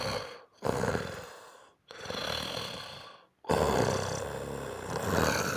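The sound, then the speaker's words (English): A voice imitates loud, rasping snores: three long, rough breaths separated by brief silences, the last one extended and harsh, without any speech. “But my mom used to snore really hard too growing up.”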